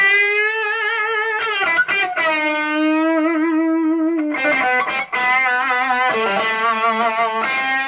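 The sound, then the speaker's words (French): Distorted electric guitar demonstrating a guitarist's characteristic vibrato: sustained notes with a fast, nervous vibrato, the pitch wobbling rapidly on each held note, punctuated by a few quick picked transitions. Loud and alone, no voices. “Il a vraiment un vibret très très caractéristique.”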